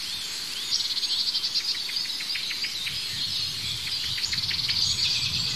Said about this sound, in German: Ja, da hört diese Aufregung der Amsel. Das Huit Huit hat aufgehört. Ja, da ist es wieder.